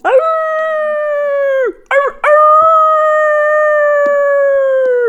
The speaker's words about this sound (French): Lorsque tout à coup, à 100 pas en avant, éclate un hurlement prolongé qui me fit passer dans la tête comme un millier d'épingles.